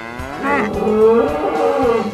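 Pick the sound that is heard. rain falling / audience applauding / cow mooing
cow mooing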